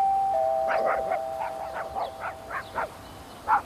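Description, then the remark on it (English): A doorbell rings with a steady, held electronic tone joined by a string of short, evenly spaced chiming pulses that continue for a few seconds, moderately loud over a faint hiss. “Mom, someone's at the door.”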